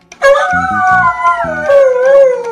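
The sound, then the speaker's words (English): At 1:30 in the morning, a dog lets out one long, loud, wavering howl that slowly slides downward in pitch. Short, lower-pitched yelps pulse underneath it. No one speaks. “And I wake up to my dog.”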